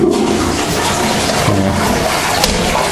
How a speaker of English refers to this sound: I don't like the toilet flush arrangements here. You have to, the lid is up against the wall, and you have to pull the lid back from the wall to reach the button.